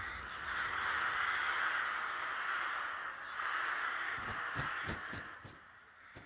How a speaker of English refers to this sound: They meet there at night and they roost there at night. But at Mail, outside Belcoo, there's a lay-by. And when the wind is favouring you, you can hear the crows very plain from the island.